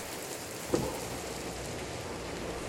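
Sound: rain falling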